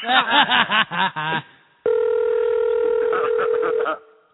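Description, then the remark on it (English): A brief burst of voice gives way to a steady, sustained telephone ringing tone from an outgoing call to Joe Carnahan in Pittsburgh, lasting about two seconds, clear, with nobody picking up. “He won't answer the phone.”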